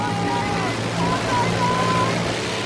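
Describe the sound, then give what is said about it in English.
Water gushes loudly and steadily from burst water pipes at a power-pulling contest after the puller's engine has cut out, a broad continuous rush over a low rumbling hum, with a few brief whining tones drifting above it. “There's water pipes burst! The engine's cut out!”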